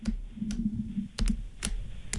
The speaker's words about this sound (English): I think it's an intercom button or switch being pressed, being released. Oh, like... We do have intercom.